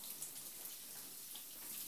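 Steady rushing water streams continuously for the full two seconds, an even hiss as hot water from a shower is poured over the right arm and chest to rinse away foam, with no voices.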